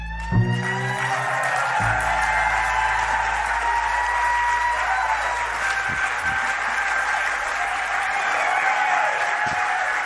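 A crowd cheers and applauds loudly and steadily right after a live song ends, the final musical notes fading out beneath the sustained clapping and whoops.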